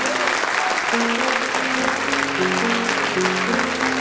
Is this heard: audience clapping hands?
yes